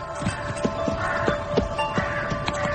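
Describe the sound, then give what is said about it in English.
Horse hooves clip-clop at a slow, steady walking pace, around seven distinct hits, over a constant low droning background with no one speaking. “Move the horse a few paces further on, so the ground's more secure.”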